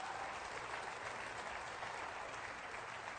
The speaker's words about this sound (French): Et vu qu'ils ont l'air si enthousiastes, voulez-vous applaudir fort les deux anges qui s'approchent?